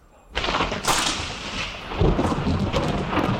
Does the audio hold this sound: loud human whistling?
no